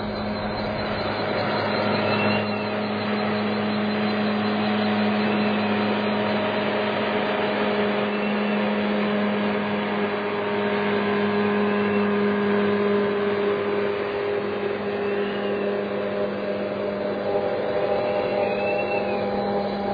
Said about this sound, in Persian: یه قایق داره میاد.